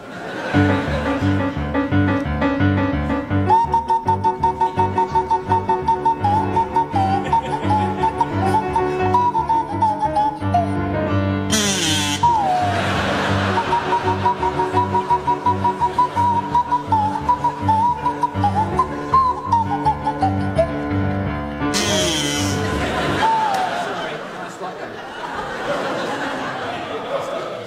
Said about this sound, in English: So, Barry and Graham, you can start, and I'd like you to provide us with a rendition of the Sabre Dance by Khachaturian to feature Barry Cryer on the kazoo and Graham Garden on the Swanee whistle.